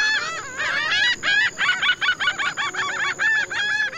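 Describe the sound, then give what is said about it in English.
A large flock of wading birds honks and gabbles nonstop in a coastal lagoon in the Rio Lagartos Biosphere Reserve on Mexico's Yucatan Peninsula, many nasal calls overlapping in quick bursts, with a faint steady high whine in the background. “A 180 bird species live in the Rio Lagartos Biosphere Reserve, including Caribbean flamingos, herons, storks, and kingfishers.”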